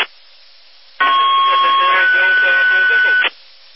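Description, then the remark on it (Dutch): A garbled, unintelligible amateur radio check-in transmission from a station in Wagenborg bursts in for about two seconds, thin and band-limited with a steady whining tone and distorted voice-like chatter, then cuts off abruptly into faint hiss. “Dat was een inmelder, maar ik kon niet verstaan.”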